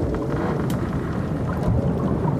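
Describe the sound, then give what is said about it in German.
Steady, dense rushing of the sea in the middle of the Atlantic, heard from inside a small boat's cabin in the evening: a constant low roar with faint splashes and gurgles rising briefly, no voices present. “Draußen rauscht das Meer und manchmal meint Donald ein Gluckern im Inneren des Rumpfes”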